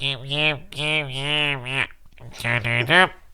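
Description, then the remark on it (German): A voice imitates how it sounds with a cold and a stuffy, congested nose, with nasal, blocked-sounding wordless vocalizing in two bursts separated by a brief pause, fairly loud. “Wie klingst du, wenn du verschnupft bist?”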